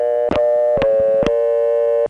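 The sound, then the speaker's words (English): A steady, unbroken telephone dial tone from the Sanford area of North Carolina hums loudly for about two seconds, with three sharp clicks breaking over it at regular intervals. No voices are present. “Now, if you're experiencing dial tone fatigue from all these North Carolina places that sound like that, here's a little bit of relief because the phone here does this.”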